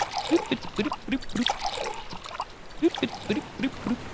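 Seawater is poured into three glasses, a bubbly, gurgling trickle in two separate pours with a brief pause between them, with no talking over it.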